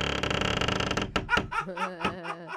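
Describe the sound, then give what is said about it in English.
A creaky door sound effect: a loud, drawn-out creaking door groans for about a second, then gives way to a string of short, wavering pulses that rise and fall like a spooky cackle. “This next creaky door story is out of Scary Movie Central.”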